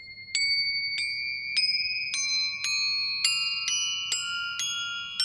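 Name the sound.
tibetan bell ringing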